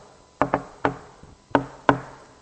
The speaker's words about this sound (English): Knock and the door will be opened to you.